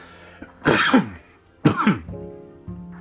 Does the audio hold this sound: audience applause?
no